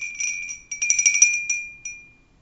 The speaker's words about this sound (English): You open it, and a little bell rings overhead.